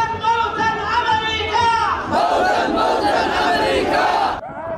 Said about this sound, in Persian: صدای مراسم رژه شبه نظامیان حوثی در استان عمران یمن پس از اعلام تشکیل این ائتلاف.